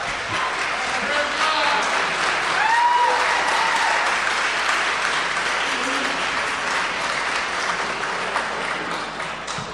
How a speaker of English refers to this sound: Friends, how about a big round of applause for both of our toast givers? I think they did a fabulous job. Let's hear it for them, shall we?